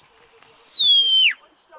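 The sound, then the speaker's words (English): A single shrill shepherd's whistle command to a sheepdog, meaning go back to your right, holding a steady high pitch, then sliding gradually lower before cutting off with a quick downward drop, followed by near quiet. “This command means go back to your right.”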